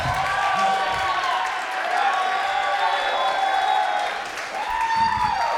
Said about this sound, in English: Hold your applause. Okay, now you can clap.